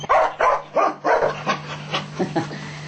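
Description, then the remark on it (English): A dog gives a quick series of about eight short barks and whiny yelps, loudest at first and then tapering off, with a steady low hum underneath and no talking. “Even dogs can have also.”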